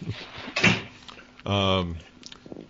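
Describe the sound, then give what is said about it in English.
A door shuts with a short, muffled thud, followed by a voice calling out loudly for a moment, then quieter room noise. “Close the door, please.”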